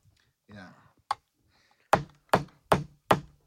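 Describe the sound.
A hammer cracks a lobster shell: one sharp blow, then a steady run of five loud, evenly spaced hits with a hard crunching edge. A short voice is heard just before.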